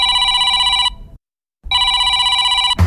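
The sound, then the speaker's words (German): A telephone rings loudly in two bursts separated by a brief silence, a bright trilling bell tone with no voices present. “Nutze deine Chance, wenn dein Telefon klingelt und helfe uns Radiomachern.”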